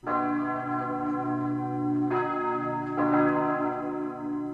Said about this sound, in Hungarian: Francia katedrálisok harangjainak szimfóniája szerdán 18 óra 50 perckor. A Notre-Dame-i tűzvész harmadnapján Franciaország összes katedrálisának a harangjait szerdán este együtt szólaltatják meg